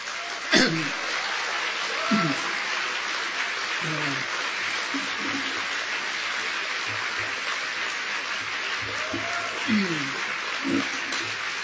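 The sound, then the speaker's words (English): An audience at a college campus talk boos steadily for about twelve seconds, a dense wash of noise with scattered low, drawn-out voiced 'boo' tones rising and falling over it, plus occasional shouts and coughs. “Now, I certainly don't mind being booed, and I think it's your right, but those who are booing, please bear in mind, you're now blaming the messenger for the message.”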